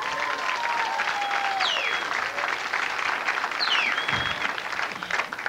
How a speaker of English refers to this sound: Give a nice round of applause to the waitstaff, ladies and gentlemen.